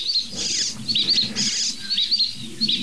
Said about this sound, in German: Und da eine Dohle.